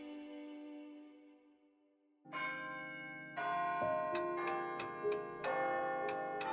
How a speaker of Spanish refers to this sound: Esa noche a las 8 todo el pueblo juró haber oído el campanario tañer. Algunos dijeron que sonaba a campanas de cristal, claras y brillantes. Otros, como un corazón que latía a un ritmo de ensoñación.